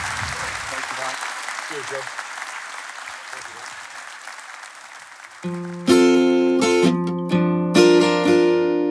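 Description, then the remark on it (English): A studio audience claps steadily in a dense, sustained wash of applause for guest Mike Bubbins, then a bright, loud burst of music cuts in over the fading clapping. “Let's give a big round Thanks of applause very much, to Mike Bubbins, everybody.”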